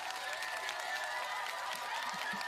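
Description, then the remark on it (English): A steady wash of crowd applause played as a sound effect, dense overlapping claps from many hands with a few faint cheers mixed in, sustained at an even level throughout with no break. “Let me do the applause. There we go. Applause.”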